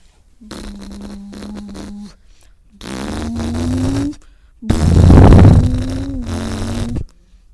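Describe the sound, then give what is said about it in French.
A voice imitates racing car engines in three buzzing, lip-vibrating bursts, each holding a low droning pitch that rises slightly, the last one loudest and roughest. “Le bruit des voitures de course.”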